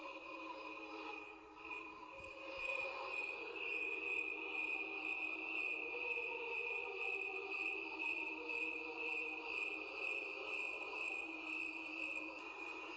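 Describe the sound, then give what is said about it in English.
A recording known as God's Cricket Chorus: a dense, continuous chorus of crickets trilling together, steady and shimmering, with an underlying layer of softer, lower chirping; no voices, just the sustained insect song throughout. “And the revealed sound was simply called God's cricket chorus.”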